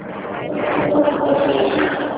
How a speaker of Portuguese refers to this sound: Ah, só um pouquinho, passou o caminhão aqui, diga.